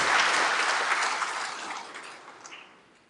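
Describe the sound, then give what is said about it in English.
A crowd claps for a woman who has just sung the national anthem, a dense, crackling wash of applause that begins strong and gradually thins and fades over about three seconds, with no voices. “Give claps to her.”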